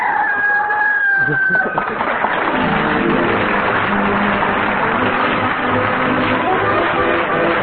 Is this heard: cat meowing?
no